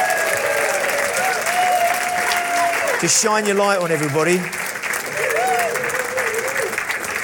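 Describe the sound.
A large crowd claps steadily and loudly throughout, a dense wash of applause, while a man's voice speaks over it near the start and a brief sung or tonal phrase rises in the middle.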